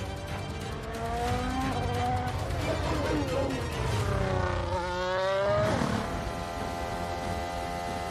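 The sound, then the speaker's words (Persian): A race car engine screams past on a wet track, its pitch dropping as it goes by, with a broad hiss of water spray underneath; the spray shows before the car. “اول آب دیده میشه، بعد ماشین.”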